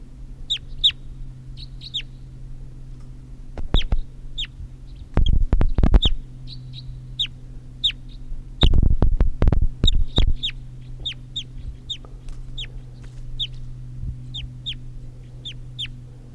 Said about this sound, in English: Start recording at 7:20 now, and there's another wild bird here after an hour, and this is bird 338.